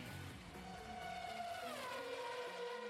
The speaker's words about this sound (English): That's an actual car or something.